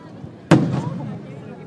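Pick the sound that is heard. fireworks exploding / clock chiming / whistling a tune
fireworks exploding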